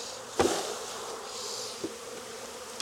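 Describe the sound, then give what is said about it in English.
A steady, dense buzzing of many honeybees fills the air, continuous, with a few soft knocks and taps punctuating the hum, as a gloved beekeeper inspects the brood in the upper section of an open hive. No one speaks. “These bees are not gonna miss these workers in this hive.”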